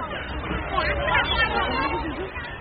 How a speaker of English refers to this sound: I wonder what that crowd are doing right at the end.